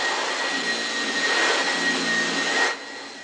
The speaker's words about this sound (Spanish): pasa la aspiradora al salón de la casa.